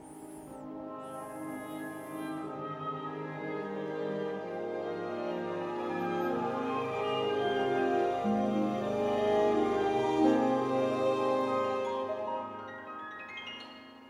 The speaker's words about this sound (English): So this is the sound of my alarm clock, actually, in the morning.